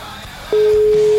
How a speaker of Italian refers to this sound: Squilla ma non risponde.